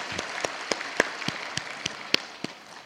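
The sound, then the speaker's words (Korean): Scattered applause from an audience, with sharp individual claps standing out over a dense, steady patter of hands. No one speaks. “영광의 박수 올려드리겠습니다.”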